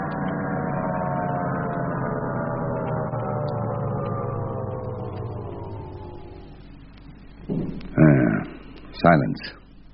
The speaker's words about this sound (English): Hear that, chum? Destroyer right over us. And another. And another.